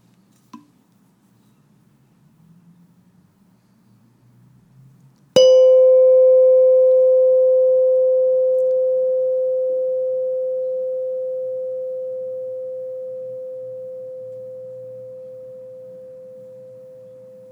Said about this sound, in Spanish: Volverás a escuchar la campana. Date cuenta del momento en el que dejas de escuchar el sonido.